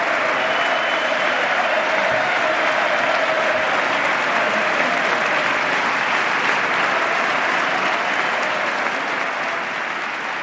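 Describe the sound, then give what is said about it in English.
Sustained applause from a large audience in the chamber at President Obama's State of the Union address, as Vice President Biden rises to applaud Speaker of the House John Boehner; steady and loud from start to finish, a dense wash of clapping with faint crowd murmur underneath. “Even Vice President Biden just rose to applaud Speaker of the House, John Boehner.”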